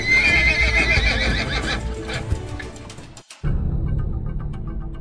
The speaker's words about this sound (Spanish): Dicen que solo con escuchar sabía cuántos caballos se acercaban.